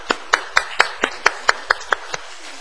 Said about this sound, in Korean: 우리 축하 박수 한번 부탁합니다.